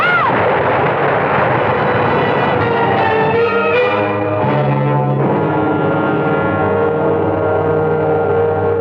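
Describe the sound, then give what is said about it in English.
A tree crashes down in a loud, sustained roar of splintering and rumbling that fills the whole clip, with ringing tonal overtones running through the din and no voices. “Rick, that tree's falling!”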